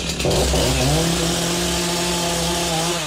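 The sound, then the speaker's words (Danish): A small power saw, used in an attempt to cut a plastic cup, runs continuously, its loud, steady motor whine holding one pitch with a slight rise as it revs up at the start. “Ej, noget, jeg skal prøve at save. Nej. Sluk den.”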